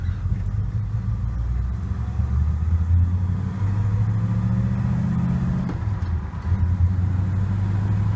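A car with a four-speed manual gearbox is driven, its engine rumbling and revving up through gear changes, the low drone rising in pitch, dropping briefly around a shift, then climbing again, loud, with no talking.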